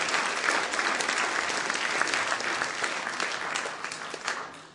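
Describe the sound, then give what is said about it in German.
Steady audience applause for four volunteers, a dense wash of many hands clapping at fairly even loudness for several seconds before easing slightly at the end. “Nochmal einen Applaus für die vier Freiwilligen.”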